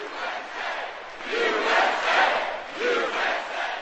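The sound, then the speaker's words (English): A large crowd at a campaign rally for Mitt Romney and Paul Ryan on their bus tour in Mooresville, North Carolina, about 50 miles outside Charlotte, cheers and shouts continuously, a dense roar of many voices swelling in waves, with rhythmic surges suggesting chanting, loud throughout. “Here's how they were greeted in Mooresville, about 50 miles outside Charlotte.”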